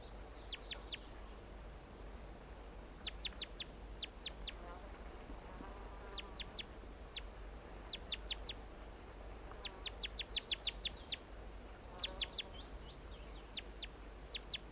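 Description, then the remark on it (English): A wild male songbird in a big white pine across a creek sings in short bursts of thin, high, rapid trills and chirps, repeated every second or two over a steady low hum, with faint lower warbling notes between phrases. “Start recording that male song.”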